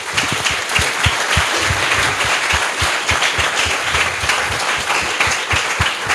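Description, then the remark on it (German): Steady audience applause at a Jugendhack youth event fills the whole stretch, many hands clapping in a dense, continuous patter at an even, fairly loud level, with no voices standing out. “Und auch ja, einen herzlichen Applaus.”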